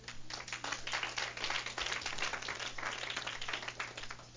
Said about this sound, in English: Clap for my brother.